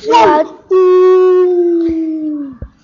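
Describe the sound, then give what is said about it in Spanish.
A dog gives one short, loud bark, then lets out a long, sustained howl that slowly drops in pitch before trailing off, clear with no talking. “Esta es la historia de un perrito. ¡Wow! ¡Wow!”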